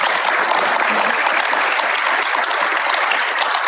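An audience claps steadily and loudly for nearly four seconds to welcome a guest speaker invited up to talk about the move from on-prem to the cloud; a dense, even wash of many hands with no pauses and no voices breaking through.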